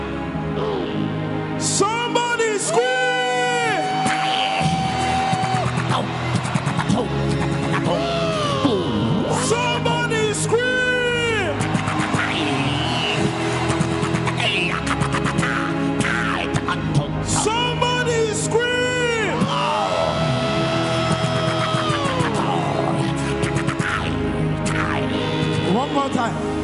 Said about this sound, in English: This is one of the moments. Somebody scream! Somebody scream!